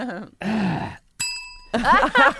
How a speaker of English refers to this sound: He hit the bell on his head.